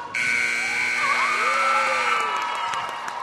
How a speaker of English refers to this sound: The buzzer sounds on another narrow High Fives victory,